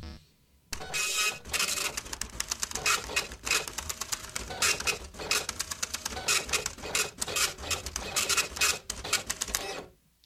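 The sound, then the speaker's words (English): A printer churns out a page with steady mechanical whirring and rapid rhythmic clicks and buzzes, fairly loud, running continuously for several seconds before stopping abruptly. “Printer's getting slower, I think.”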